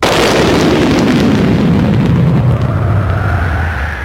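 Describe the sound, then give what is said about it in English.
A loud crack of thunder that rolls on as a deep, sustained rumble for about four seconds, heavy in the low end and slowly easing off, with no voices. “And at that moment, they heard the crack of thunder, followed by a voice.”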